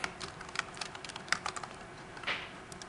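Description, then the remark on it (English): Rapid, irregular clicking of keys on a computer keyboard while coding an app, a steady flurry of light taps with a few sharper, louder strokes, and no voices. “I think I just typed it wrong.”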